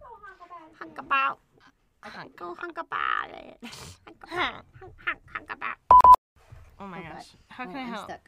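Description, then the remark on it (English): A voice imitates a goose honking, letting out several nasal, squawky honks in quick succession, fairly loud, with a short electronic beep partway through. “You're the silliest goose in the whole wide world. Honk. Honk.”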